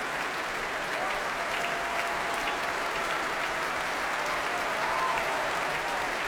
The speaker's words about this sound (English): Applause from the orchestra, the strings tapping their bows as well.